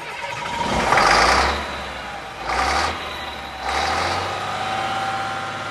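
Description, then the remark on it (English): The heavy diesel engine of a river barge on the Congo River rumbles low and steady as the captain revs it up in the morning to cast off, surging in three distinct revs that swell and ease back, with no voices, just the deep throb of the motor. “Each morning, the captain revs up the engines and casts off from wherever we moored overnight.”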